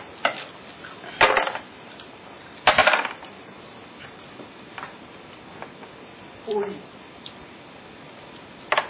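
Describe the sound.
Dice clatter onto a hard surface in several short bursts for an initial roll, sharp rattling clicks that come and go over quiet background noise, with faint voices in the background.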